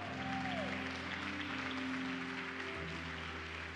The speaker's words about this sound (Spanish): ¿Cuántos lo creen? Si lo crees, dale un fuerte aplauso al Rey de Gloria.